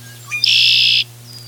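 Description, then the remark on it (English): A wetland bird calls from a power line over a road: a short rising note, then a harsh, buzzy trill lasting about half a second. It is loud over a steady low hum. “Once in a while, I hear him call from the power line over the road as I drive past, if the traffic doesn't drown him out.”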